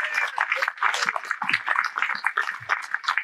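An audience bursts into a full round of applause, many hands clapping in a dense, steady crackle that stays loud and even throughout, with a few faint voices mixed into the noise.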